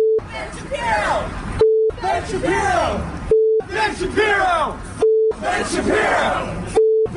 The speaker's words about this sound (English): So that's for those of you trying to figure out what the beep means. It starts with an F, ends with a bomb. So it's an F bomb, Ben Shapiro.